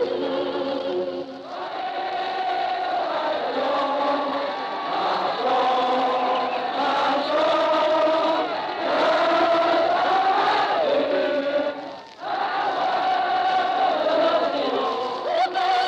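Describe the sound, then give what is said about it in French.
A vast crowd of tens of thousands on the Place de l'Opéra in Paris on 11 November 1918, as Marthe Chenal sings La Marseillaise, roars continuously, many voices singing, shouting and applauding together in a dense, sustained wall of sound, with a brief dip before the chanting swells again. “Mais un océan, 20, 50, 30 000 personnes étaient là, chantant, criant, applaudissant.”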